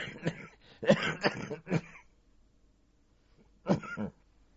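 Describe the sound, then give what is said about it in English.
A bout of coughing: four harsh, throaty coughs in quick succession, a short silent pause, then one or two more coughs. “If I lean back, I always get a cough.”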